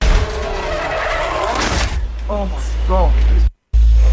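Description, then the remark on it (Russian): Race cars roar and skid with tires squealing, a loud, continuous rush of engine and tire noise, while people shout over it. The sound cuts out briefly near the end. “Вот это все это заезд такой.”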